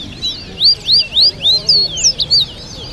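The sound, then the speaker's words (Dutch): A protected songbird, a kind also found in the wild in Suriname, chirps in a quick series of bright, high whistled notes, roughly eight rising-and-falling calls in steady rhythm, clear over a low background murmur. “Ja, beschermde vogels.”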